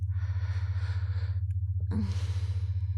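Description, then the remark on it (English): Slow, relaxed breathing: a long, soft exhale, a brief pause, then another drawn-out breath, with a steady low hum running underneath throughout. “Breathing slowing and relaxing as the high from dominating you continues to buzz inside me.”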